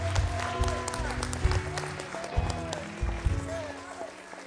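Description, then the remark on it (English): A church audience claps hands in praise to the Lord at a morning service, a dense, steady patter of applause across the whole clip, mixed with voices calling out and some sustained tones underneath. “Let's just give the Lord a hand clap of praise this morning.”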